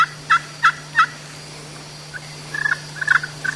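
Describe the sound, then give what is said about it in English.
Turkey yelps played by a person on a glass friction call, fall turkey calling: four crisp, evenly spaced notes, a pause, then a faster, raspier run of scratchy yelps, clear over a steady low hum. “And then that's me on the glass call.”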